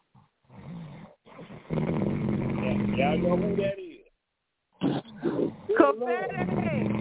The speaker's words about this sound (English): So who is that snoring like that? Y'all know who that is.